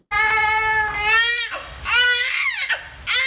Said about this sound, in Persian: گزارش امید مرزبان در این مورد با صدای یک نوزاد آغاز میشه.